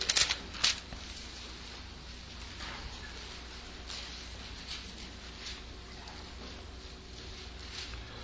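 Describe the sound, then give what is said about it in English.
Many Bible pages rustle and flip at once as an audience turns to John 5:24, a soft, continuous papery shuffle with a few sharper turns near the start and no voices. “So if you'll turn in your Bible to these passages, I don't have the words up here, but I want to hear the pages turning today, okay?”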